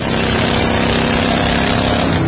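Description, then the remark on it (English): Steady, loud motorcycle engine drone while riding, a continuous roar with a low harmonic hum and rushing wind noise filling the whole stretch, unbroken. “And this is how that same commercial sounds on your motorcycle.”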